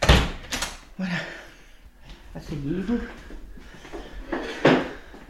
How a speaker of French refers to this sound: Attendez, je vais même fermer la porte parce que